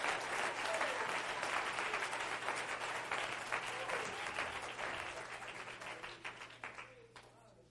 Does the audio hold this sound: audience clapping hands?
yes